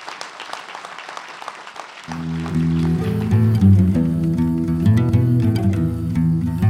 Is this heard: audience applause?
yes